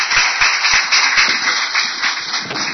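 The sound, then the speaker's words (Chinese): A crowd at a Buddhist dharma hall applauds steadily to welcome an elderly Dharma master's talk, many hands clapping at once in a dense, continuous patter that stays loud and even throughout, with no voices above it. “我们恭临老法师对我们的宝贵开示啊，我们大家鼓掌欢迎。”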